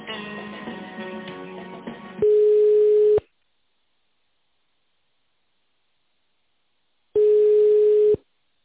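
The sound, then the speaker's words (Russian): A telephone line tone as a caller is transferred to a manager: two steady one-second beeps separated by a long silent gap, following a brief stretch of muffled, tonal line sound at the start. “Я вас сейчас переключу.”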